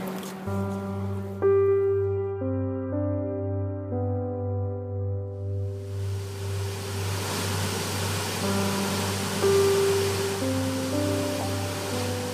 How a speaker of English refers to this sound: Nugget Falls is a beautiful waterfall that empties into Mendenhall Lake.